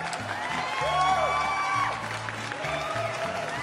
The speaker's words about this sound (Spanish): Y de que hoy, 20 de septiembre, señores, damas y caballeros, es su cumpleaños. Unos aplausos, por favor.